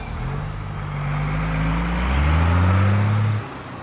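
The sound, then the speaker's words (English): A bus engine hums low and steady, its pitch rising as it accelerates and pulls away, fairly loud, then dropping off near the end. “Without thinking too much about it, he boards a bus that will take him to the last station of the case.”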